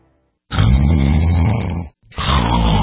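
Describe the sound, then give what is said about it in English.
Loud, rasping snores: one long throaty snore followed after a brief pause by the start of another, with no talking. “What if you could stop the snoring instantly without nose strips, mouth guards, or a procedure?”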